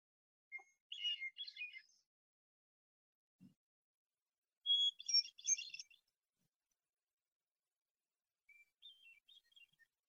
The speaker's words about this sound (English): Okay, so that's the hermit thrush.